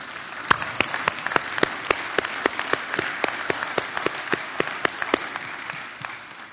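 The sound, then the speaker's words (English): An audience applauds: many hands clapping in a dense, steady patter of sharp claps that holds at a fairly even level for several seconds, with no voices over it. “I hope that applause was not because I was done, but because God is good.”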